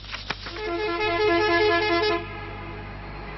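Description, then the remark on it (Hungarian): Loud, sustained horns of buses arriving one after another in Brussels for a protest by at least 500 bus drivers blare together in a long chorus of overlapping honks in a street, then fade to a softer tail with traffic rumble. “Duda szóval egymás után érkeztek a buszok Brüsszelbe, az Unió mindegyik tagállamából.”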